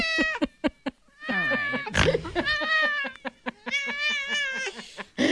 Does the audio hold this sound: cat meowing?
yes